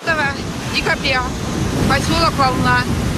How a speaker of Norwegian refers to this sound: Lyden fra en strand ved Svartehavet, nærmere bestemt Volna i Russland.